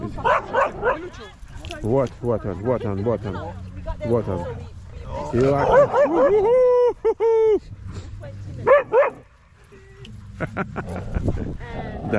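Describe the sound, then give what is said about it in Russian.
Several dogs bark and yip in short, excited bursts, including a few high-pitched whiny yelps, while people talk over them. “Все собачки пришли.”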